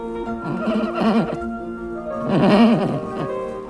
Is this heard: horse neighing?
yes